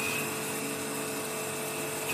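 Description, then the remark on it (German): A metal tool grinds steadily against a spinning grinding stone that is no longer needed, throwing sparks, making a harsh, continuous rasping whine with a faint high tone. It is fairly loud, with no voices. “Ist jetzt ein Stein, der nicht mehr benötigt wird, Gott sei Dank. Weil der sich so funken jetzt. In dem Fall ein Schleifstein.”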